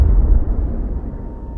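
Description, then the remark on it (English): A deep, booming explosion with a sudden onset, followed by a long low rumble that slowly fades, a blast felt in a military command center that shook the walls. No voices, just the heavy blast reverberating. “You could clearly tell there was an explosion.”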